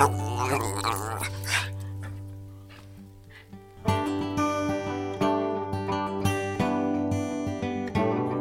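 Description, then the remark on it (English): A dog barks and yips in a run of short, high, strained calls at first, then sharper repeated barks later, all over a steady low hum. “But as much as I love, adore, and treasure my pooches, it is true that you never forget your first.”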